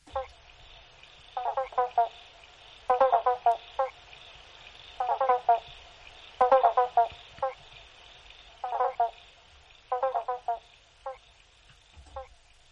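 A chorus of banjo frogs trading short single-note calls, clustered in quick bursts that answer one another every second or so, over a steady high-pitched insect-like hum.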